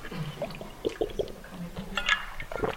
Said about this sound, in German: So, muss mal kurz was trinken.